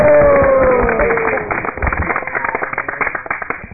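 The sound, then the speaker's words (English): Several people clap their hands in a quick, uneven patter of sharp claps that builds after a moment, with voices sounding underneath. “And all the Sakhis are clapping like this.”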